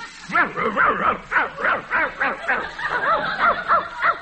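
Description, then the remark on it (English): A dog, Muldoon, barks in reply to being talked to in dog language, a quick, steady run of about a dozen short, yappy barks, fairly loud, with no pause between them. “I'm going to talk to Muldoon here in dog.”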